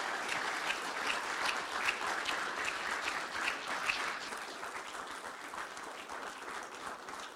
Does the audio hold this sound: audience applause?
yes